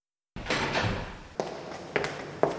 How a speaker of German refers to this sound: Da klopfte es plötzlich an meine Bürotür.